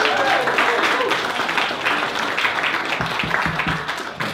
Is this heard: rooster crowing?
no